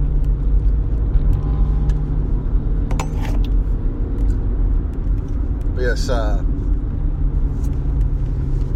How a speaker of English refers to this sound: Is that a Mazda Miata? I don't know, it's beat up like hell, but it's got, sounds like it's got some racing mods on it. It's an old Mazda car. It looks like a freaking tin can. Somebody did something to it to make it sound like a hot rod.